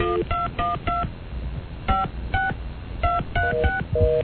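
phone keypad dialing tones

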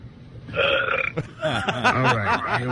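loud burping

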